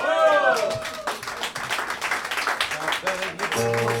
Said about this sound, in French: Alors bon, on peut quand même les applaudir bien fort.